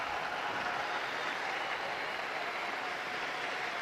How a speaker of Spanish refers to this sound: A este gran Papa de la modernidad lo saludamos con un aplauso todos.